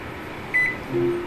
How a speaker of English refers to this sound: The Ask the A-Lady button is right under the convection cooking. So let's see what it does. You'll hear a beep, and then you'll hear the Echo Dot answer.